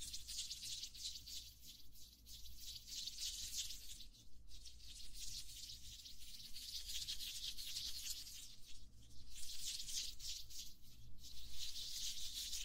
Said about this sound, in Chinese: 搓手的声音也听得到吗？